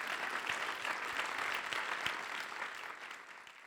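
A crowd claps steadily, a dense, even patter of many hands with scattered sharper claps, sustained throughout and tapering slightly at the end.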